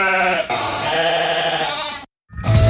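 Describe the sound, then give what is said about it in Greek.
A sheep bleats loudly and close by, one long wavering call followed by a brief pause and a second, shorter bleat, with no talking. “Black Sheep, όπως το πρόβατο, το μαύρο.”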